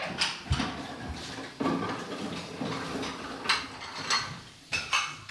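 Rice and soup bowls and chopsticks clink and knock together in a steady scatter of small, sharp taps over a soft hum as everyone eats breakfast at Antaiji as Zen practice, with a few louder clacks standing out.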